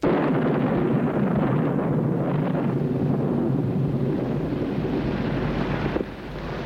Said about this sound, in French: Et au milieu de l'orage, des éclairs, du tonnerre, dans une chambre éclairée par le passage des éclairs